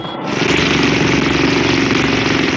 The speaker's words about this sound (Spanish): Una lancha de motor se desprende rumbo a la embarcación pesquera.